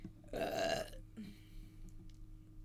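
A woman lets out a single loud, raspy burp for about half a second, then it fades into a quiet background hum with faint rustling.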